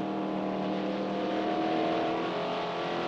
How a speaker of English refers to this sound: He's cutting in and out of traffic, passing everyone.